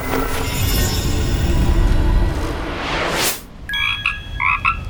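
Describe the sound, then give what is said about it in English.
A rising magical whoosh of a spell sweeps up over a rumbling wash of noise, then a frog (Tutu, just turned into a frog by the spell) croaks in two quick pairs of bright, ribbity calls. No one speaks. “You just turned Tutu into a frog?”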